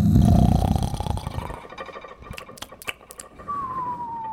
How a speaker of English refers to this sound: until at last the sound of the giant's snores shook the castle walls.